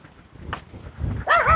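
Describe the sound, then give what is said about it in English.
A dog barks: a short sharp yap first, then a louder, drawn-out bark near the end, over low background rumble. “Careful, dog. Hurt yourself.”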